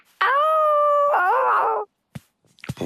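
A single loud, drawn-out dog howl, holding a steady tone and then wavering and sliding down before it breaks off, followed by a few faint, brief sounds.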